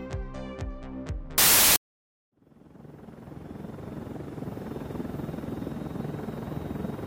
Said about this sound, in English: I can't believe Sebastian sent a helicopter to pick us up.